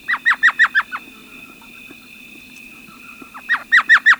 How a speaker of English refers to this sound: But they don't stay empty for long. Elf owls.